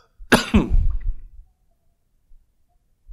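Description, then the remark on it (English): A single harsh cough bursts out loudly, followed by a short rasping tail, then near silence with a couple of faint soft bumps. “Sorry, as I use my exceptionally large coffee cup to try and calm the cough.”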